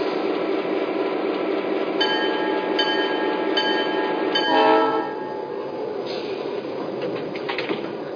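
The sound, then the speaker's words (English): Passenger train number 5600 rumbles steadily on track one, with thin high metallic squeals drifting in and a brief louder surge midway, then settling into a quieter hum; no one speaks. “Philadelphia, track one, train number 5600.”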